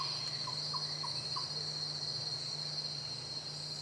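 A steady, high-pitched drone of chirping insects fills a rainforest soundscape, with a constant low hum beneath and a few soft, brief calls near the start.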